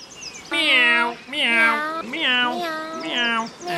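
Four drawn-out cat meows in a row, loud and close, each rising and falling in pitch with brief pauses between them and no other sounds around.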